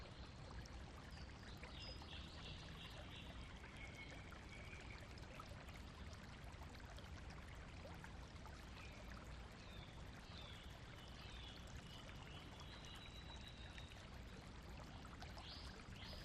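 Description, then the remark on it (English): A gently flowing stream burbles and trickles steadily throughout, a soft continuous wash of water, with a few faint high bird chirps drifting over it and no voices. “listening to the peaceful, sleepy sounds of the doves, the song of the stream, the gentle rustle of leaves in the trees.”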